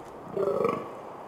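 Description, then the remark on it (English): A natterjack toad call: one deep, guttural, burp-like croak lasting about half a second, rising briefly out of a steady background hiss. “Like the mount jack, it sounds like Jabba the Hutt let loose in the forest, a giant toad coming after you.”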